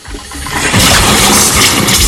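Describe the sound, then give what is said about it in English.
A bathroom tap turned on to fill a glass bursts on with a loud, sputtering rush of water and air, surging after a brief start and continuing as a steady gushing with no voices. “A mixture of water and air blast out.”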